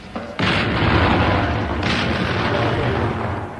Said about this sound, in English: And there you hear the 74th Medium Regiment RA firing over open sights smack into the pudding itself. Tell me, Major, what are they firing? Threepenny bits.